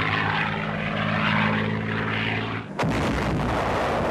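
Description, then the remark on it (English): A propeller bomber carrying 500-pound bombs under its wings drones overhead in a loud, steady, low harmonic roar for nearly three seconds, then a sudden blast cuts in as an airstrike knocks out a dump, followed by a rumbling crackle of explosions. “They had 500-pound bombs under their wings. They come right over our heads, knocked out the dump.”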